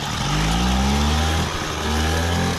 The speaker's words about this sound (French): Exactement, et comme ces Moto Bécane bleus appartiennent à un temps que les moins de 50 ans ne peuvent pas connaître. Voici d'abord un document sonore, celui du moteur de cette mobilette.